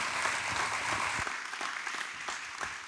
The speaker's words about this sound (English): Give them one more big hand clap. Come on.